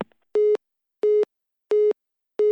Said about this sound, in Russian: А мне останется надолго длинные гудки.